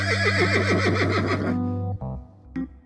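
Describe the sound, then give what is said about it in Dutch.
A horse named Knol whinnies loudly in a barn on Boer Boris's farm, its shrill, quavering call falling in pitch over about a second and a half, followed by two brief snorting bursts. “In de ene wordt het hooi bewaard, in de andere staat Knol, het paard.”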